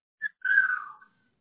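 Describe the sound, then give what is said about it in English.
A 2-year-old boy screams in the house while the children goof off: a brief squeak, then a longer wavering shriek that slides downward in pitch. Fairly faint, with no talking. “Well, it's my 2-year-old. He's screaming and they're goofing off in the house.”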